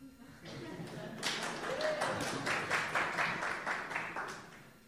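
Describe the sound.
A group of people claps their hands in a steady, somewhat loose rhythm for a few seconds, starting after a brief pause, with faint voices murmuring beneath the claps, as they are told to smile, clap their hands and jump.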